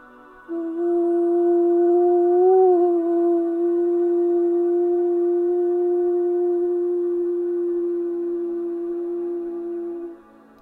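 A single voice sings one long, steady meditative "om", held for about ten seconds with a slight waver near the start, clear with nothing else around it.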